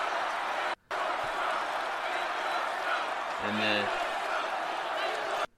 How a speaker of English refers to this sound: And then the chanting is, "We want Trump."